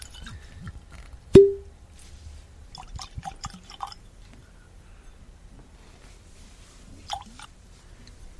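Water trickles and drips from a small bottle into a glass, starting with a sharp clink and followed by scattered quiet glugs and splashes, with no talking.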